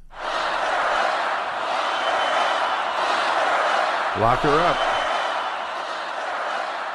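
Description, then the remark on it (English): A large crowd at a political rally chants "Lock her up" in unison over a steady roar of cheering, with one voice briefly rising above the mass of voices partway through. “I think we got that effect that I thought we could play, because this is, how many times did you hear this chant?”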